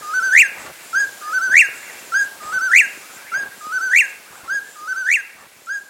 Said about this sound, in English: A desert-loving California quail crows in the forested mountains of West Virginia as frontiersmen watch warily for Indians.